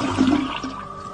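The last flush of a toilet tailing off, water rushing and gurgling down the drain with a steady, noisy swirl that fades only slightly over the short clip.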